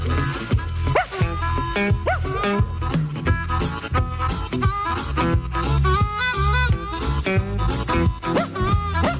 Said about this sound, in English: Every time I go to town, the boys keep kicking my dog around. Make no difference ever, he's a hound. You better quit kicking my dog around.